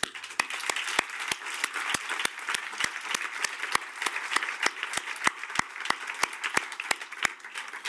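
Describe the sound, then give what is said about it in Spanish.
Sustained audience applause for a speaker after her presentation on education, a dense wash of many hands clapping steadily throughout, with a few sharper individual claps standing out at a regular pace. “Ese aplauso que oyes de fondo es para ti.”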